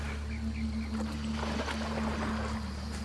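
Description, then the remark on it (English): Water splashes and sloshes as a group of giant otters surfaces and swims around a boat, over the steady low drone of the boat motor, with a brief flurry of splashing in the middle and no voices. “Then the water erupts with other otters in the group surfacing to swim around”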